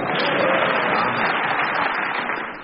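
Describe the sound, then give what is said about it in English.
Steady, dense studio audience applause, a continuous rush of many hands clapping at an even level for a few seconds before easing slightly at the end, with no voices on top. “We've got more applause.”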